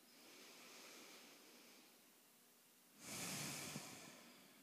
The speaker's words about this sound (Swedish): och andas in genom näsborrarna. Och släpp ut. Se om du kan lägga märke till hur dina axlar kan sjunka ner när du andas ut. Så ta några djupa andetag så här.